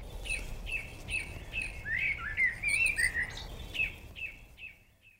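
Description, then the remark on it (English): A blackbird's mellow, fluting phrase warbles briefly in the middle, set against another bird's steady, regularly repeated sharp chirps and a soft outdoor background hum. “And the blackbird's that lovely fluting song.”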